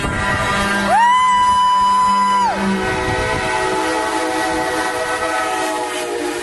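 A single loud, train-like European horn blast swoops up in pitch and holds for about a second and a half before cutting off, over a steady rumbling background that continues afterward.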